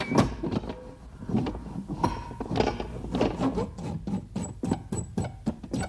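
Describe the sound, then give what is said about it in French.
A heavy stone door of a treasure cave in the forest grinds shut with a rough, rumbling scrape broken by a quick series of knocking clatters, steady in loudness and heard alone without any voices. “Et la porte se referme sur lui.”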